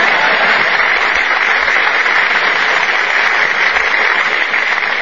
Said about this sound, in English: If you want to applaud, applaud. I'll wait.